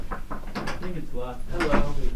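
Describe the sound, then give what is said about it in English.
A door opens with a couple of sharp mechanical clicks and rattles from the latch as a person walks in, while voices talk over it. “It's around this time that Alec walks in the door.”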